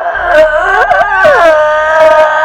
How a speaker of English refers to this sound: The old woman raises a skinny finger and points at him and lets out a guttural moan.